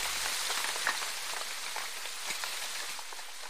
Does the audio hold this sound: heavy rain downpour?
yes